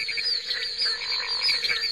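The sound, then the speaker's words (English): A dense chorus of frogs croaking and trilling steadily, many overlapping high-pitched calls pulsing in a continuous rhythm, moderately loud with no voices, from an album, released in 1958. “The recording … was a surprise hit for Folkways from the time it was released in 1958 through its reissue in 1998.”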